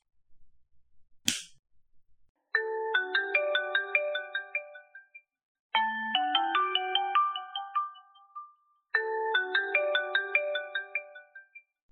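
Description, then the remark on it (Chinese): A sharp click, then a phone ringtone for a late incoming call plays its bright electronic melody three times in a row, loud, with short gaps between repeats and no voices. “咦，是小玉啊，这丫头现在打电话来干什么呀？”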